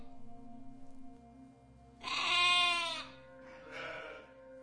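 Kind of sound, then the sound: animal, sheep and goats bleating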